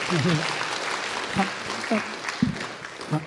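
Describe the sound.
An audience claps steadily, a dense, even patter of many hands filling the whole stretch, with scattered voices calling out over the applause.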